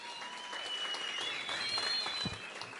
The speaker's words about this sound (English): Once again, let's give him another warm round of applause.